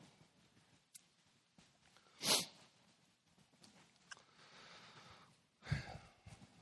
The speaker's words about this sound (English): Thank you for those pages turning.